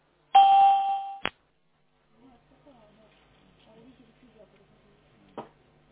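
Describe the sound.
A single loud electronic beep tone on a call-centre phone line lasts about a second and ends in a sharp click, followed by faint, muffled talking in the background.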